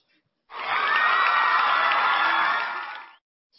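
A burst of audience applause and cheering welcoming a speaker invited to read a class graduation summary, dense and steady for about two and a half seconds with bright whoops mixed in, starting abruptly and fading out at the end.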